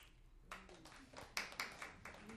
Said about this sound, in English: Who applauded? Seriously, let's hear from somebody who applauded.